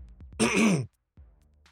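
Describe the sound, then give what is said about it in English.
One loud, rasping throat-clearing cough from a person with a croaky voice bursts out, lasting under half a second, followed by a brief low rumble and quiet. “Do your cough,”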